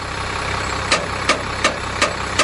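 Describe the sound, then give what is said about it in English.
A bus engine idles at a bus and coach depot in the Blue Mountains west of Sydney, Australia, while the bus is readied for the day, with a steady, dense rumble as sharp clicks recur at a regular, quick pace over the hum. There is no talking. “At a depot in the Blue Mountains”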